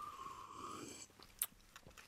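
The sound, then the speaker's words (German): A wet slurp of lemon juice sipped straight from a citrus press, lasting about a second, then a few quiet lip smacks and one sharp click. No one speaks. “Ich könnte es auch aus der Presse einfach ein bisschen schlürfen.”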